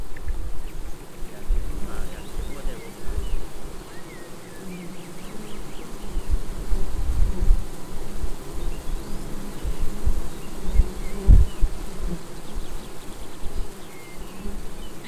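A dense, steady drone of many honeybees buzzing around their hives, continuous throughout, with a few louder low thumps and swells, and no voices.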